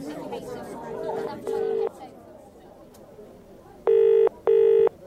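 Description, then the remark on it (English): A telephone line rings as someone phones her husband: one buzzing ring tone, a pause, then a double ring, heard through the handset. Faint background chatter and voices fill the first half. “Got to phone the husband.”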